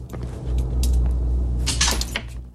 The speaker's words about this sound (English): He replaces the file. The drawer squeals as it closes.